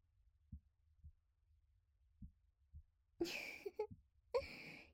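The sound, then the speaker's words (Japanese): A close, muffled human heartbeat of the speaker thumps softly in two lub-dub pairs, then gives way to loud breathy sighs and exhales. “私の心臓の音、落ち着きます？”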